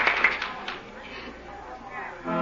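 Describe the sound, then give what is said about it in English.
A first-night theater audience applauds the performers in front of the footlights after a performance, a dense wash of clapping that is loudest at the start and then thins into a steady, softer patter for the rest of the moment. “If the first nighters like it, listen to that applause.”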